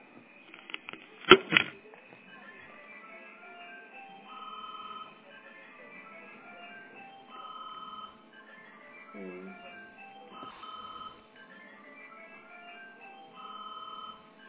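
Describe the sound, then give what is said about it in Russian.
A phone ringtone for an incoming call plays a short electronic melody that repeats in regular bursts about every two seconds, moderately loud, after a brief clatter at the start. “мне звонит теперь параллельно.”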